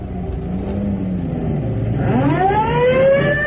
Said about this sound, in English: Boy, I never went to a fire in the chief's car before. We're not going to a fire. Well, this is just as exciting.